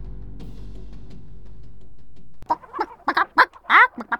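A low, steady hum fills the first half, then a chicken breaks in with a rapid run of sharp clucks and squawks, about six bursts in quick, uneven succession.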